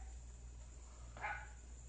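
A single short dog bark rings out, fairly faint, over a steady low background hum with no one talking.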